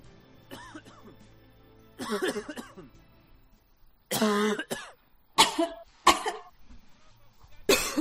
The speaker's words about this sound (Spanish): Qué molesta es la tos, ¿verdad?